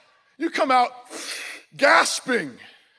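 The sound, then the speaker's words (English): A voice imitates someone gasping for air after coming up from deep underwater, with two loud, breathy gasps separated by a short rasping exhale, voiced and strained like a swimmer bursting up from underwater. “You come out gasping for air because that's what your lungs were for.”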